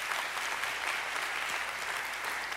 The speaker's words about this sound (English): The first book, go ahead and clap for him. That's incredible.